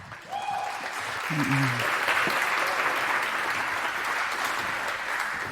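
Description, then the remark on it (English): An audience breaks into applause welcoming a speaker to a talk, a dense steady wash of clapping that swells within the first half-second and holds at an even, loud level, with a few brief tonal sounds at the start. “So please welcome, with a very warm round of applause,”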